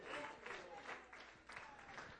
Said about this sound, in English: Why don't you stand and give him praise? Why don't you stand and clap your hands, all you people, and say thank you.